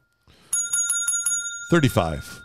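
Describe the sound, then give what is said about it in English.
A bright bell, rung for a correct guess in a measurement guessing game, rings in a quick burst of about six dings, its tone hanging in the air, before a person starts talking over the fading ring. “I think we're going to have to change this to you have to be exactly right to get the bell.”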